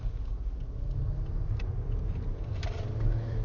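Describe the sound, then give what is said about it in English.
A car engine revs and drones steadily from inside the cabin, a deep continuous rumble with road noise as the vehicle accelerates to get up to speed on a highway, with no voices present. “My car revving up, I'm trying to get up to speed on the highway.”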